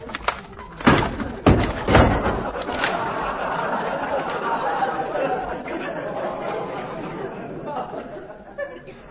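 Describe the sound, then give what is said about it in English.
A heavy front door crashes down with several loud banging impacts in quick succession as a visitor arrives, followed by a murmur of chatter and scattered laughter from a crowd. “Pick up the door and close it.”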